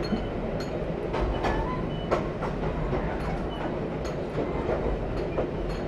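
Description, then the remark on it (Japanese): A limited express train rumbles steadily along the rails, loud, with a constant low roar broken by sharp, irregular wheel clicks and clatters. No voices are heard. “この特急列車は松江新宿温泉方面は接続をしておりませんので、松江新宿温泉方面へお越しのお客様は駅待合室にてしばらくお待ちくださいませ。”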